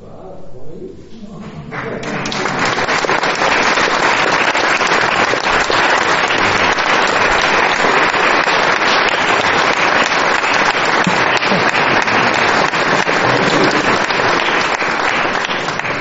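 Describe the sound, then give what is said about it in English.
An audience at the end of a presentation breaks into sustained applause, the clapping swelling within the first couple of seconds into a dense, loud, steady roar of many hands that holds without pause to the end. “But I have to say the main applause really goes to many people, but they are all headed up by this gentle soul here.”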